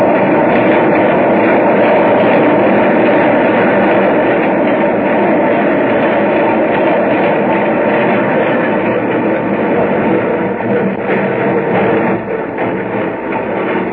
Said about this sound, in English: Now the train was stopping. 72nd Street.